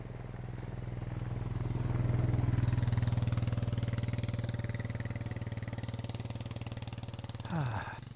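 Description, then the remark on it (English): Low, rumbling vehicle engines drone steadily, swelling louder around the middle as a vehicle passes, then fading slightly before a brief rattling clatter near the end. “More vehicles are coming and they're scaring the deer that I'm watching.”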